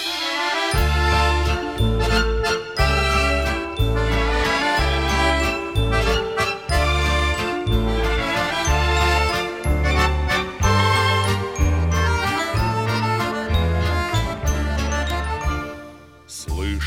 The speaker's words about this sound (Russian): Для вас звучит песня